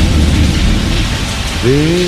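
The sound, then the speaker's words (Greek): A low rumble of thunder rolls beneath steady, hissing rain, fading partway through, and a brief rising tonal sound enters near the end. “Ακούτε και τα μπουμπουλικά.”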